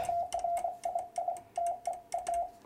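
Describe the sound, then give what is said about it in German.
A steady mid-pitched tone is keyed on and off in a brisk pattern of short and longer beeps grouped with small pauses, Morse code being sent to spell out a person's name, with no voices. “Deinen Namen werde ich jetzt noch mal schnell morsen”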